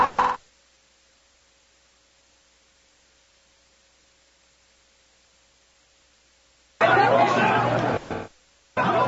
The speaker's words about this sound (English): Ooh, let's turn the crowd mic up so you can hear all the Louise boos.